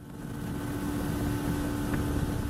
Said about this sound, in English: We chartered a boat and travelled nearly 6 hours along the Australian coastline through the Bass Strait, which is an extremely rough patch of sea.